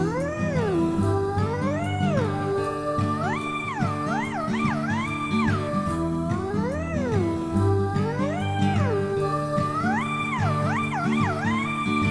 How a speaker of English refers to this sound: Oh no, it's a black cat.